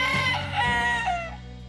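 A rooster lets out a loud, drawn-out crow, with hens clucking faintly beneath it. No one speaks.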